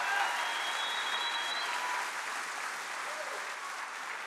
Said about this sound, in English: So give the Lord a hand clap in this house today.